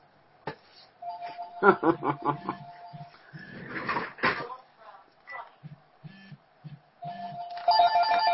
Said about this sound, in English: Oops, let me do something about that phone. Sorry.